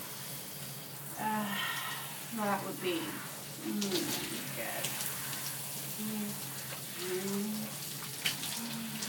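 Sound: shower running water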